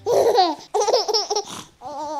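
Babies babble and laugh in the room next door, three loud, high-pitched bursts of giggling and cooing with sliding pitch and brief pauses between them.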